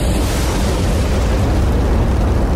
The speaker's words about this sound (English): Wow, it's like a massive fiery path appeared as they joined up. The temperature of lightning can get hotter than the surface of the sun. And that's why when lightning hits things, it can cause so much damage.